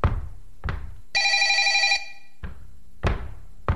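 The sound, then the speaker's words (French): A single bright, trilling telephone ring lasting under a second stands out clearly, surrounded by several dull knocks and thumps spaced irregularly before and after it. No one speaks. “Non, de répondre au téléphone.”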